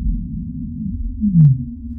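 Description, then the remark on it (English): A blue whale call picked up on a fiber-optic cable using DAS: one deep, moaning tone sweeping downward over a steady low rumble, with a faint tick partway through. No one speaks. “I think it's the first time I've used DAS to listen to blue whales.”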